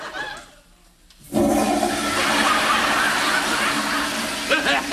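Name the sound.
toilet flushing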